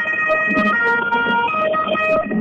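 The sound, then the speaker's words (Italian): A passing police car siren wails steadily and fairly loudly over low street rumble during a street march in the Rifredi neighbourhood, its pitched tones stepping up and down, with no one speaking. “Era passata una volante, adesso la situazione sostanzialmente è tranquilla”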